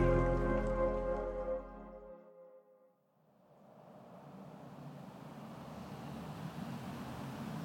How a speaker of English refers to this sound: We're on the Williamsburg Bridge, stuck in traffic. Going nowhere fast.